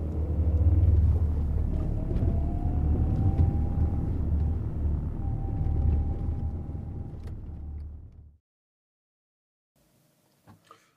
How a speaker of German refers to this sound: Danach steigt er ein, startet den Motor und fährt zu irgendeinem weiteren leerstehenden Gebäude irgendwo in der Millionenstadt.